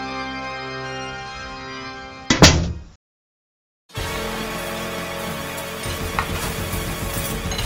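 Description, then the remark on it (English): A door slowly swings shut with a single dull, heavy thud over a steady low hum, then everything cuts to silence before a different busy background ambience begins. “slowly closed the door so that no one else may watch his death.”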